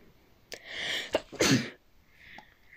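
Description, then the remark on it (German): A single loud sneeze bursts out after a short sharp intake of breath, then fades into a quiet exhale with no talking around it. “Hab genießt. Also, das wird man eh gehört haben.”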